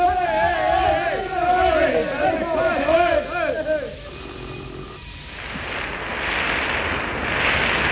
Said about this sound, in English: Three members of our studio audience, picked entirely at random, with a boat hook, are going to shout in the microphone, and the one who shouts the loudest will win Buckingham Palace.